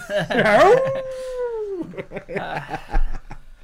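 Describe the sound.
A person gives one drawn-out, wolf-like howl that holds and then slides downward before breaking off, followed by people talking over each other.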